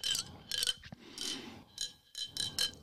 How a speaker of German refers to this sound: Also den Verschluss check ich noch nicht so ganz, warum. Damit es schön klappert.